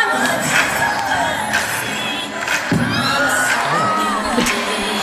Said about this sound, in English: I do want to play it for you see if you can hear the crowd gasp. This is … on the stage in Biloxi.